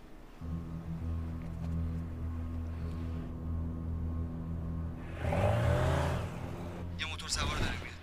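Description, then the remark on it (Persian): A motorcycle engine idles with a steady low drone, then revs sharply and roars past, loud and rising then falling, followed by another brief burst of engine noise. “خودشه، همه گروه آماده باشن، موتور سواره رو داشته باشی.”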